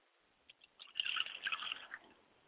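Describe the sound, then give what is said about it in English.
A short pour of liquid, a libation poured in prayer, splashing onto a surface, preceded by a couple of soft drips, then a second-long burst of trickling and spattering that fades out, fairly quiet. “I pour libation for my father's spirit, Obatala, for Robert Jenkins.”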